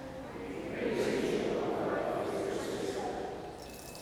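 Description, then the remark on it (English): Water pours steadily into a baptismal font for about three seconds, a continuous splashing trickle that swells and then tapers off, with a faint murmur behind it. “We praise you, O God, for water.”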